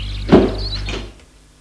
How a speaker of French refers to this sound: Ils entrent, elle ferme la porte.